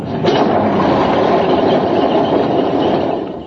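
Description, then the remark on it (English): A fire engine's motor turns over and catches, then settles into a loud, steady rumbling idle that holds constant for a few seconds before easing slightly. “Right, hold on, everybody. I've got to start her up.”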